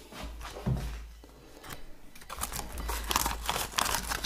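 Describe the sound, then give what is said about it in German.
Plastic bags crinkling and rustling, handled in irregular bursts that grow busier and louder toward the end, with a low rumble underneath and no one talking. “Dann brauche ich jetzt die Tüten.”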